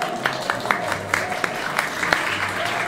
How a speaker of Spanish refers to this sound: y un aplauso.